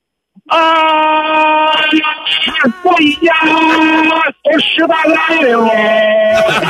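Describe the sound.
A caller imitates a lion's roar with a loud, sustained, strained vocal growl, delivered in about three long bursts separated by brief breaks, with a strong buzzing tone throughout.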